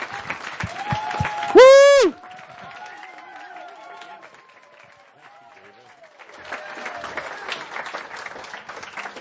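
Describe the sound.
An audience claps warmly, with a sharp whistle or whoop cutting through early on. The clapping thins while voices carry over a quieter middle stretch, then a dense wave of applause swells again.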